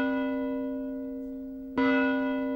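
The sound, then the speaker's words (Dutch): A church bell in the church tower of Stronterdam, a farming village near Biggeveen, tolls twice as a bell-ringer pulls the rope, each deep, ringing strike followed by a long humming decay full of shimmering overtones, the second stroke landing before the first has faded. No voices. “Als het 1 uur was, trok hij 1 keer aan het touw. Was het 2 uur, dan trok hij 2 keer aan het touw.”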